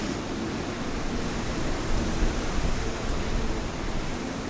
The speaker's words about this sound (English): And the wind, you can see the rain kind of coming across in sheets like it does in coastal storms.